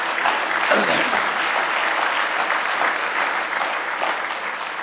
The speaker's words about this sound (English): Now give the Lord a good hand clap of praise this morning.